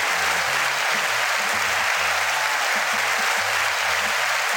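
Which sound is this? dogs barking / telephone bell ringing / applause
applause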